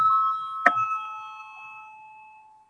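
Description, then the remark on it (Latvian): A bright electronic bell chime rings in the Latvian parliament (Saeima) to call a vote, with sustained tonal lines and a brief sharp strike, fading steadily over a few seconds. “Lūdzu, zvanu, balsosim par 5. Juridiskā biroja priekšlikumu.”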